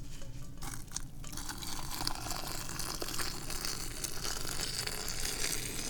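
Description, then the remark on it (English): Tea is poured one-handed in a steady, unbroken stream for several seconds, an even splashing and trickling of liquid into a vessel, with no one speaking. “And we're going to now do the world famous one-handed pour.”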